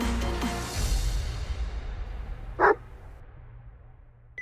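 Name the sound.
dog barking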